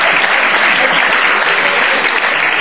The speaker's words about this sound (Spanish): Ya la gente le aplaude al caramelero.